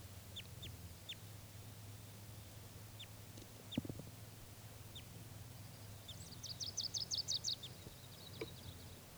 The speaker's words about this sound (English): One of the birds came back, and this, I think, a female. That's her. This is the wild bird.